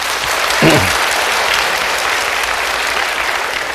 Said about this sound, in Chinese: 翻唱的好不好？我们鼓掌一下好吗？